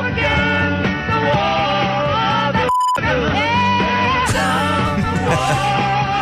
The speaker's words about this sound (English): It's a beep, though.